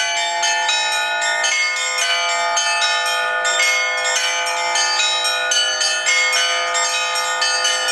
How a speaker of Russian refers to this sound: Просто чудесно послушали перезвон колоколов, который, честно говоря, даже до слез доводит. Вот так вот глаза прикроешь, слушаешь, как будто нет рядом с тобой никого. Мы специально сюда ехали, именно чтобы попасть на этот колокольный звон завершающий.